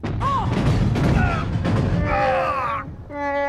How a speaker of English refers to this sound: What was that? I don't know. I think we caught some shrapnel off the explosion.